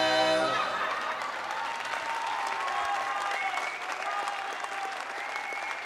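Sustained applause from a large crowd after a performance by a quartet, steady and full for the whole stretch, with dense clapping and no voices standing out.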